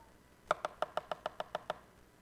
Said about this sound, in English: Knocked on the door.